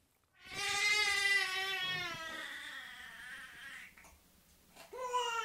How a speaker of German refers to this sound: Das Baby, das hier weint, ist 3 Monate alt. Die Mutter ist gerade mal 13 Jahre älter.